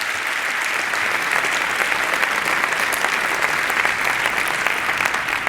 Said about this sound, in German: Einen ganz warmen Applaus.